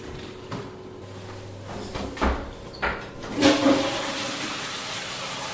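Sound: water splashing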